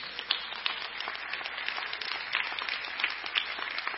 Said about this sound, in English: If you believe it, give the Lord a hand clap.